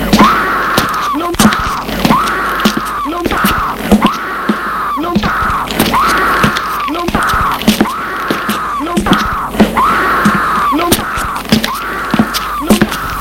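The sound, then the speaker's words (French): Strange, horrible screams repeat in a steady rhythm, each a loud wailing cry that rises and falls, with sharp knocks and clicks scattered between them and no talking. “Il entend des cris étranges, des cris horribles.”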